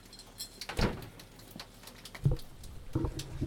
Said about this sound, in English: Yeah, rain, ladies and gentlemen. Rain. I am tempted to step out into it because we haven't had rain for a while. Not proper rain. I've even got a puddle in the garden.